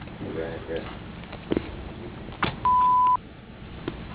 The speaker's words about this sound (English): at the sound of the beep. Thank you.